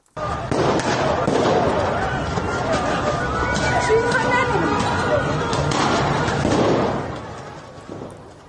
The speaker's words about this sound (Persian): در یاسوج مرکز استان کوکیلو و بوراحمد همچنین اونجا ویدیوهایی هم منتشر شده از شلیک گلوله، پرتاب گاز اشکاور. میریم به یاسوج.